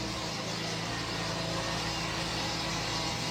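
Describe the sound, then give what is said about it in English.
Workers sand concrete with a concrete sanding machine that grinds steadily, a continuous loud rough whir with a low motor hum running underneath, unbroken for the whole stretch with no voices. “Sanding it, I think.”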